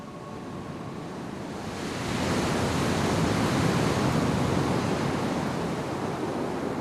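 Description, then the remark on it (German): A dense, roaring wash of surging sea surf that swells louder after the first couple of seconds and keeps churning steadily, with no voices. “Das Meer, das noch da ist, schäumt und tobt wie wild.”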